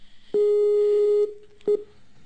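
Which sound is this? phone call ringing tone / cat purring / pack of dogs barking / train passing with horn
phone call ringing tone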